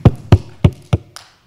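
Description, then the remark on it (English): Four sharp, evenly spaced hand claps ring out during a game of Simon Says, about a third of a second apart, followed by a softer, trailing clap, with no talking. “Simon says, clap your hands.”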